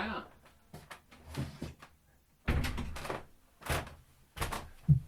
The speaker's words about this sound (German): Der Olli geht zur Tür, macht auf.